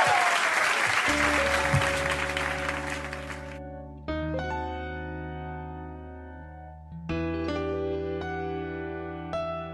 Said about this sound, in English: Thank you very much for coming here. Will you please give it a big round of applause